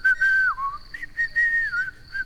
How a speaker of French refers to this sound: Eh ben, dans ce cas, les fantômes ne sifflent pas. Et moi, je siffle. Écoute.